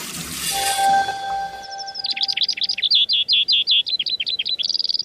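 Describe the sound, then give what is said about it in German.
A Eurasian skylark's song of rapid, high, trilling chirps pours out in a continuous warbling stream, clear, after a brief opening of hissing noise with a faint tonal hum. “Aber dieses hier war tatsächlich die Lerche. Die Feldlerche, um genau zu sein.”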